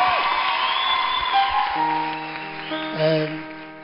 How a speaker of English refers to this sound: So please clap your hands and welcome the Father of the baby.